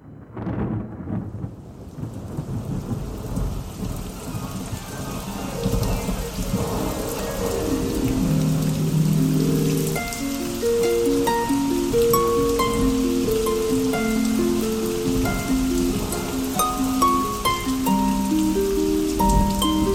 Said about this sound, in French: Parmi vous, une goutte de pluie ou une larme de pluie sur les joues de notre planète Terre.